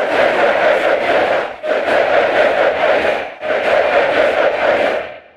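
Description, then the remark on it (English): A huge stadium crowd of angry soccer fans chants "You don't know what you're doing" loudly in unison, a dense roar rising and falling in a rhythmic phrase with brief dips between chants, made by applying the rhythm of Zoom-recorded chanting to a library stadium crowd recording. “Then they combine the two so that a few Zoom recordings becomes a stadium full of angry soccer fans.”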